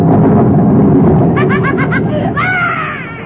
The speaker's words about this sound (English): I started to laugh, but the thunder scared me. Well, go to sleep and you won't hear it.